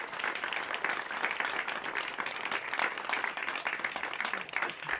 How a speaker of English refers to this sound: And they have been a sponsor of these concerts on KBUR for over a decade. Could I have a round of applause for Standard of Beaverdale?